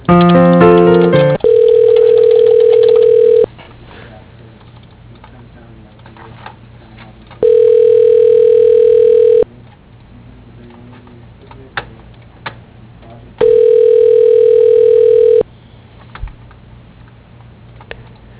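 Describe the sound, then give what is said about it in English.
Phone call transfer tones as a call is transferred to a voicemail: a short burst of tones, then three long, steady mid-pitched ringback tones at even intervals with quiet line hiss and faint clicks between them. “Yeah, I'll transfer you.”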